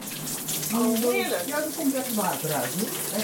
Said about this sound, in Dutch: Nou, zullen we het bad even aanzetten? Ja, beslist. Even wil je er nog even in? Ik wil er nog even. Zet het even aan.